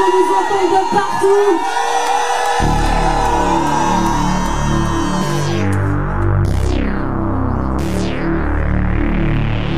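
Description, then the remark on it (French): A large concert crowd in Saint-Étienne roars, cheers and shouts loudly when asked to make noise, then a heavy, pulsing bass beat kicks in beneath the noise, with a few rising whooshing sweeps cutting through. “Où est-ce que vous êtes là, Saint-Étienne? Faites du bruit.”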